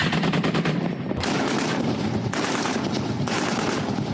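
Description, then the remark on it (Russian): Heavy automatic cannon fire from a modernized armored reconnaissance and patrol vehicle on a firing range in Kherson region: loud bursts of rapid shots repeating one after another, with no voices. “Модернизированная боевая разведывательно-дозорная машина на стрельбище в Херсонской области.”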